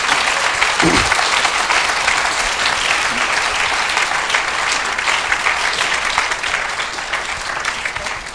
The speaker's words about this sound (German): Ja, dann danken wir euch ganz herzlich, dass ihr da so offen gesprochen habt, euch allen dreien, den drei Ehepaaren. Und das ist wirklich ein Applaus wert, denke ich einmal.